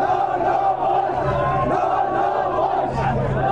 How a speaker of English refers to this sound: Tanks rolled in to push back the crowd. With hundreds shouting anti-American slogans, ending in English with "No, no, Bush."